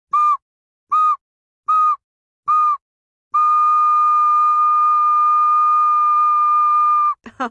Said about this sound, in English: Oh, Slide Whistle.